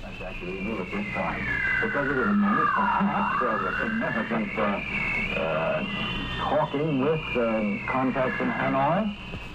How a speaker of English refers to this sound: Here now are examples of image interference, first from radio teletype.